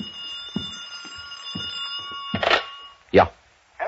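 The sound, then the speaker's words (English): A telephone rings in an apartment past two o'clock with a steady, high, shrill bell tone for about three seconds, broken by dull thumps, then two louder rustling bursts and a final noise as it stops. “It was past two when I got back to my apartment, and the phone was screaming for help.”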